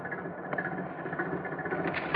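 A car engine idles on Main Street in Los Angeles at 7 p.m., with a steady, low rumbling hum throughout, moderately loud, ending with a sharp burst of noise.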